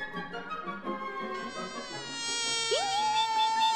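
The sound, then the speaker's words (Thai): A buzzing insect drones past, its thin whining hum swelling louder toward the end with a quick upward swoop in pitch, heard alone with no voices. “ไม่นานก็มีแมลงตัวหนึ่งบินผ่านมา”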